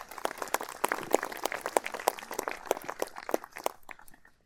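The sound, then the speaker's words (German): Scattered audience applause at an open-air church service in dry weather, for the music group a band: many sharp, irregular claps crackling together for a few seconds at a modest level, thinning out toward the end. No one speaks. “Genau, ruhig einen Applaus.”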